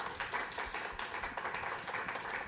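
An audience applauds a guest as the session wraps up, dense overlapping claps forming a bright, continuous crackle that holds at an even, fairly loud level throughout, with no voices.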